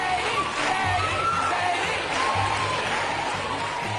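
A large studio audience on Oprah's show, with Oprah, roars with sustained screaming and cheering of Katie Holmes's name as Tom Cruise rushes backstage to fetch her in 2005, loud and continuous for the whole stretch, with a dense wash of excited voices and whoops and no pause in the noise.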